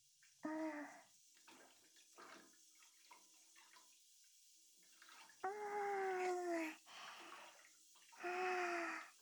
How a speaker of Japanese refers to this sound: お湯の温度はそこそこだけど、 とりあえず、ゆっくり入るわよ。 足の先からじんわりと温めるよ。